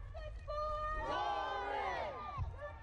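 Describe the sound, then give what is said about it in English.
A growing protest crowd marching in the street for justice after a young woman's death, many voices raised together in a loud, sustained chant that swells after the first second, with a steady low rumble of traffic or movement underneath. “Moments later, the growing crowd hit the streets.”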